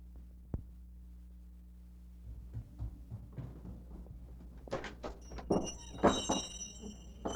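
Bells hanging on the front door of a home jingle and ring in a bright, shimmering cluster near the end, following some soft rustling and thumps over a steady low hum, on Christmas Eve, December 24, 1958.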